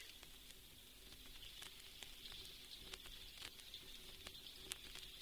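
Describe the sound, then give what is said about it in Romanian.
Steady, soft rain falling on its own, a continuous gentle hiss dotted with irregular, quick pattering drops. Quiet and even throughout, with no voices. “Dar acum s-a prins schimbat în ploaie.”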